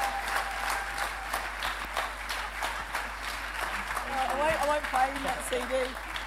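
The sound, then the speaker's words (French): A church audience at C3 Lausanne applauds steadily as a speaker comes on stage, dense overlapping claps filling the whole stretch, with a few voices cheering or calling out over the clapping toward the end. “J'aimerais qu'on puisse l'applaudir bien fort,”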